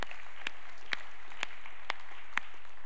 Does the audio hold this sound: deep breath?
no